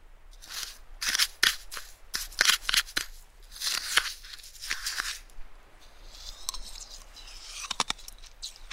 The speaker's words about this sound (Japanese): この薄くて小さい氷をガジガジって噛んだ時のこの氷が割れる音がなんだかすっきりした感じがするの。